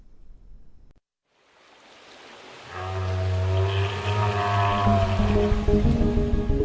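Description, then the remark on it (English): Underwater whale vocalizations: low, sustained droning moans with layered tones emerge over a rushing wash of water noise, building in loudness and holding steady, with no one speaking. “For the first time ever, researchers who study whale communication think they might actually be close to understanding it.”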